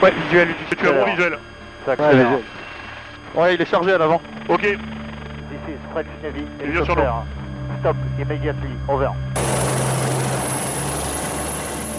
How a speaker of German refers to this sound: Also was wir da hören, das ist genauso ein Einsatz der französischen Marine, die im vergangenen Oktober so ein Schnellboot mit einem Helikopter verfolgt haben. Und dann irgendwann hat ein Scharfschütze vom Helikopter aus auf die Motoren geschossen